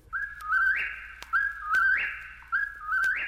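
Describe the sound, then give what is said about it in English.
A whip-poor-will call repeats three times in a steady rhythm, each clear, rising whistled phrase ringing out fairly loud with nothing else around it. “Whippoorwill”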